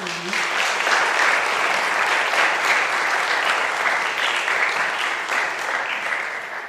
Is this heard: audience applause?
yes